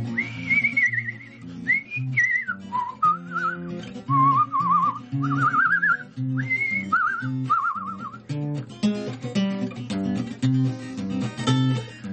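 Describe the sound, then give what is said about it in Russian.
A person whistles a wavering, warbling tune of short rising and falling phrases, the whistle used to call horses to water, set at the start of a song over steady instrumental music that carries on alone after the whistling stops. “Вот таким свистом зовут лошадей на водопой.”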